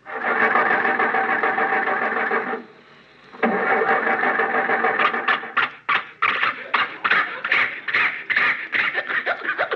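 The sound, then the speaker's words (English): A voice imitates Jack Benny's old car struggling to start as Rochester is told to start it: a long, loud wheezing grind, a brief pause, then another grind that breaks into rapid, choppy sputters and coughs. “sounds that we have, like Fibber McGee's closet that you just heard there, or the sound of Jack Benny's car.”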